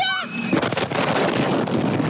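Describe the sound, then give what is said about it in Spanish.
A brief tonal whine gives way to the second massive explosion at the port of Beirut, filmed from an apartment less than 600 metres away; its loud blast rolls straight into a sustained, roaring rumble that fills the rest of the short recording. “Entonces ocurrió una segunda explosión.”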